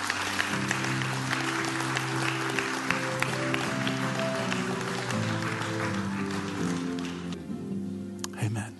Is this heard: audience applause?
yes